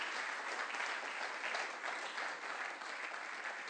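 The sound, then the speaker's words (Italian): An audience applauds the Lord for a fellow church member, a steady, dense wash of many hands clapping at an even level for the whole stretch, with no voices rising above it. “Facciamo un applauso al Signore per questo fratello.”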